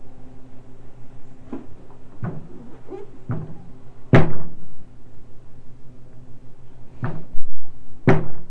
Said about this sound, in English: You bang your head so hard.